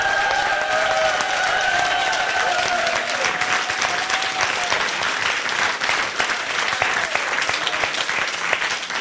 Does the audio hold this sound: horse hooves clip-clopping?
no